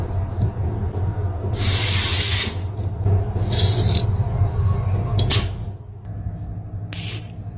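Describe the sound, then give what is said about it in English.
Loud gas hissing from a spray can into an empty refillable lighter in several bursts, a long blast followed by shorter spurts, over a steady low hum with no voices. “So someone got a lighter, a refillable lighter, and found a spray can with a”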